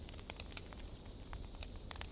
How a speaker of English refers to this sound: The crackling of the wood is a symphony of comfort, a sound that speaks of home and hearth.